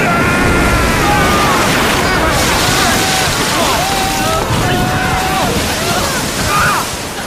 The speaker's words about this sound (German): Dieses Unwetter versucht, uns ins Verderben zu reißen. Doch es muss mit allen Klabautern der sieben Meere zugehen, wenn wir dieses Unwetter nicht überstehen.